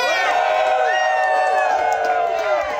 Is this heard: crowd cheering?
yes